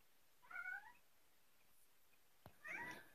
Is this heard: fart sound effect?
no